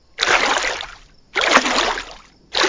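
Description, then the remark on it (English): Water splashes in three broad, hissing surges, each lasting about a second with brief pauses between, as someone gets into the water for a swim on a scorching summer night. No voices. “I'm going for a swim, and so are you.”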